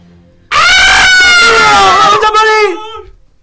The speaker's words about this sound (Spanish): Minutos después, los gritos de los pasajeros la hicieron reaccionar.